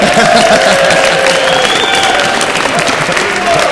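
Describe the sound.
An audience at a Lug Radio live event claps for a man's t-shirt in a steady, dense, continuous wash of applause, with scattered cheers and a few voices calling out over the clapping throughout.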